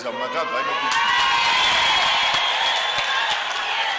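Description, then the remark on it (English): Delegates at the annual conference of Zimbabwe's ruling party cheer and shout continuously for their leader, President Robert Mugabe, a dense, loud roar of many voices with whoops rising above it, sustained without pause throughout. “Those are delegates at Zimbabwe's ruling party annual conference cheering their leader”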